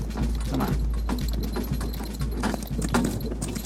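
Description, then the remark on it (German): Steady clip-clopping of a horse's hooves as it pulls a cart along a street, regular rhythmic strikes over a constant low rumble of rolling wheels, moderately loud, with faint jingling. “Also genau dasselbe wie vorhin, nur jetzt halt auf dem Karren und ihrem Pferd.”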